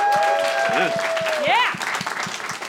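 Audience applause, a steady dense wash of clapping with a few sharp whistles sliding through it, swelling briefly and then thinning out slightly toward the end.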